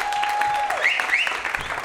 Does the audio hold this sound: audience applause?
yes